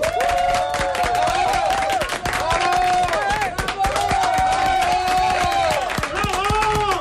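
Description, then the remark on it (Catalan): About 25 people in a radio studio applaud and cheer, a dense, steady patter of clapping with some excited voices mixed in, sustained throughout. “Farem un aplaudiment, perquè la gent pugui sentir que som ara mateix 25 a l'estudi de Catalunya Ràdio.”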